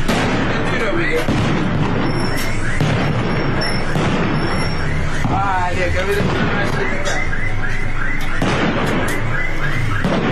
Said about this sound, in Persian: تصاویر و ویدیوهای رسیده از سنندج از تجمع معترضان و روشن کردن آتش در شامگاه یک شنبه و صدای ممتد تیراندازی و انفجار حکایت دارند.